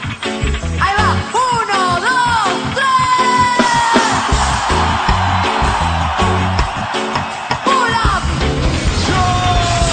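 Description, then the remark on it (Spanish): A group of people lets out loud, sustained yells and whoops together on a count of three, voices rising and overlapping for several seconds over a dense, rhythmic background, intense throughout. “¿Puedes ir a la cuenta de tres un grito como la gente?”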